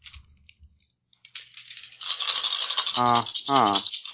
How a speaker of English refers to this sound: Oh, that's dice? That is dice.